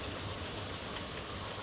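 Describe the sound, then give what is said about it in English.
Steady rain falls on a porch in a continuous, even hiss with soft patter on a surface, filling the short stretch without pause and without any voices. “Like I said, all of my favorite sleep aids have rain sounds.”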